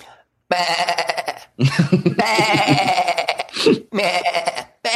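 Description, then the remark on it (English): A man's voice imitates a sheep, giving about four loud, wavering bleats in quick succession with brief pauses between them. “What a bunch of soulless, spineless, heartless sheep.”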